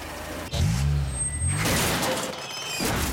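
A car collision: a sudden jolt, then a low grinding scrape and a burst of noisy metallic crunching that fades. It's loud, with no voices.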